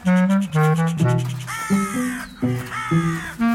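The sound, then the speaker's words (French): Jays calling: a rapid run of about seven loud, rasping calls, one after another with barely a pause, and no voices. “Non, mais ça veut dire qu'il y a une communication quand même qui est assez fine.”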